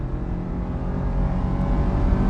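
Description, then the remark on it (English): A car engine roars steadily and loudly, a continuous low rumble as the vehicle pulls hard under full throttle, the driver flooring it from an exit ramp to merge onto I-75 ahead of a tractor trailer, with no voices over it. “There was a tractor trailer from a competitor, really, another carpet company, bearing down on me in the right lane on the exit ramp, so I had to floor it.”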